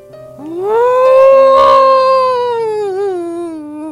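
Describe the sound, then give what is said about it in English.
A creature gives a single long, eerie howl that swells up quickly, holds loud, then slowly sinks with a wavering, trembling tail, with no voices alongside it. “And that awful howl, I can still hear it screaming in my dreams at night.”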